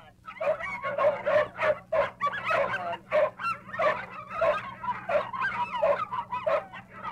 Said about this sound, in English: And now hear the trained dogs as we pass their corral here in the circus backyard.